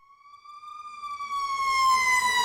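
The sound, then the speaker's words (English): A wailing emergency siren holds a steady high pitch and grows louder, while a low rumble of street traffic rises beneath it partway through, on Western Avenue in East Hollywood, Los Angeles. “Western Avenue in East Hollywood is a tangle of screaming sirens and traffic”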